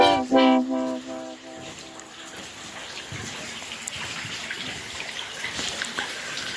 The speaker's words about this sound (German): Was ihr da im Hintergrund plätschern hört, das ist die Saline in Bad Kissingen. Heute machen wir einen auf Kurbetrieb. Die Saline, also Bad Kissingen ist ein Kurort in der Rhön. Und die Salinen, das sind große Holzgerüste, sehr, sehr hoch und lang